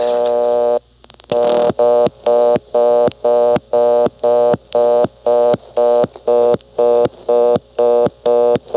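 A steady telephone dial tone, heard after the handset is picked up, stops when the digit 3 is dialed with a few faint clicks. Then a loud, evenly pulsing busy-type signal beeps about twice a second, clear. No correct dialing sequences begin with 3, so this marks a dialing error.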